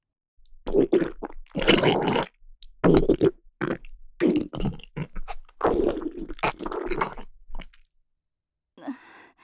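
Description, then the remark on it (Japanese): Loud, gurgling stomach rumbles of a woman holding back the urge to defecate and pass gas, in a series of irregular bursts with short pauses between them, prominent, ending with a brief fainter gurgle after a moment of quiet. “おばさんのお腹の音聞こえる？うるさいくらいなっちゃって、ここからおなら出せ、うんこさせろってお腹が騒いでるのよ。”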